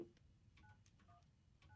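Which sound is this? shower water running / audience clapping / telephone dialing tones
telephone dialing tones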